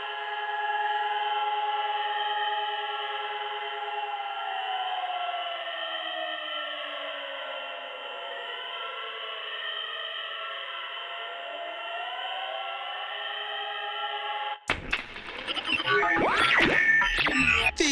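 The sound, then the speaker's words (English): Several alarms wail together, their overlapping tones sliding up and down in a steady, loud drone with a thin, band-limited quality, then cut abruptly into a harsh burst of crackling noise. “All day, all night, these fucking alarms.”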